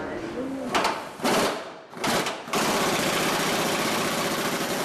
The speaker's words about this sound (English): walks over with an electric tool called an impact gun.